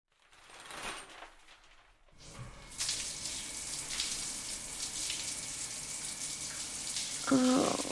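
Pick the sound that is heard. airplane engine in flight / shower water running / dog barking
shower water running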